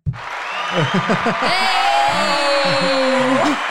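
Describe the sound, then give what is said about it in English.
A stock crowd applause sound effect played from a new mixer: a dense, loud wash of clapping from a large audience, mixed with cheering voices and one long sustained whoop, lasting a few seconds before cutting off. “That's one of the stock sound effects.”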